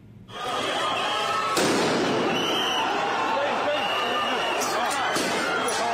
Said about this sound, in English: Also in Kenya, chaos on the streets of Nairobi's business district as police clash with protesters.